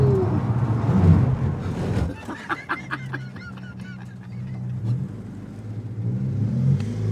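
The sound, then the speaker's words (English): A rally car engine rumbles loudly, then a run of sharp, wavering squeals rings out over a steadier idle as the car does a handbrake turn in the last corner of a 1.1-kilometre, 14-corner motorsport course. “Ah, we just did a little bit of a handbrake turn there at the end, you know, a little bit of a steal for the finish.”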